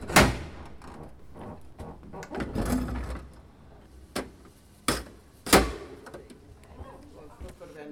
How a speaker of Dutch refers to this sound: We besluiten hier de camper voor de deur uit te klappen.